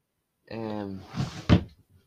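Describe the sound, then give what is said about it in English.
A drawer, in which a diary is found, slides with a brief groaning scrape, then shuts with a single solid thump, fairly loud, followed by a faint rattle. “First drawer I looked in.”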